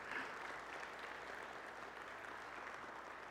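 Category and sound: crowd, audience clapping in church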